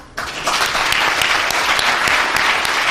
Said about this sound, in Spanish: Esta es la sonora ovación que le dedicaban los presentes a Juan Manuel Vieites después de hacerse público que renuncia al cargo de secretario general después de más de 3 décadas defendiendo los intereses del sector industrial del mar y la pesca.